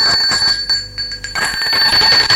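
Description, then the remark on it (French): A doorbell rings at Nicolas's door one morning with a bright, high, sustained metallic tone that briefly drops back partway through, then resumes loudly for the remaining couple of seconds. No voices are heard. “on a sonné à la porte de Nicolas.”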